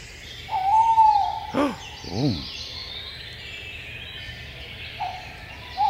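A tawny owl hoots: a long, steady mid-pitched hoo, then two short quavering notes, and after a pause another hoot begins, all against a faint hissing background with no talking.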